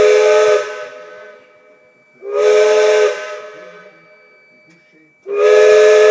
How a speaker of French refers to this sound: Comme tous les autres bateaux, on a des sifflets réglementaires à donner. Et les passagers et puis les gens du port, ça avertit le départ. Et puis il y a des significations bien précises, quoi. Le grand coup de sifflet quand on part